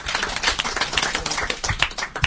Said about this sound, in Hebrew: לא שמעתי כפיים, מגיע לו.